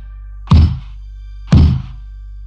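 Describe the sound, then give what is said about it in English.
Knocking on a freestanding wooden door with a shiny golden doorknob, standing upright without a frame in the middle of a forest, heard from a few feet away: three heavy, hollow thuds spaced evenly about a second apart, each with a deep low thump and a short rattling tail, over a steady low hum. “What I heard matched what I saw, knocking on a door from only a few feet away.”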